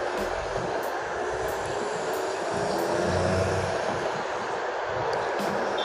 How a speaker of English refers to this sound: Sorry about all the noise, but I'm standing outside watching the cars drive past and stuff, man.